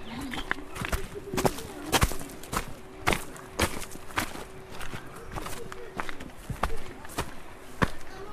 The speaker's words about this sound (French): Oh, juste le bruit de pas.